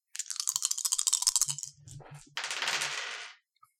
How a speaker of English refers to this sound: So that's going to be just rolling three dice for body since you don't have any points in run.